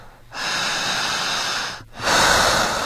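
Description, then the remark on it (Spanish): During a guided relaxation, a deep, airy breath is drawn in for over a second, then after a brief pause another louder rush of breath follows, with no talking. “Jale el aire igual que yo.”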